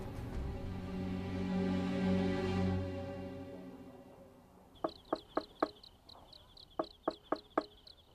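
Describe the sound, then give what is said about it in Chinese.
Hurried knocking late at night on the wooden door of Xu Shen's house comes in two quick bursts of sharp, loud raps, after a sustained musical tone fades away. “小子，这么晚了敲门这么急，你扰了我家老爷休息，我拿你试问。”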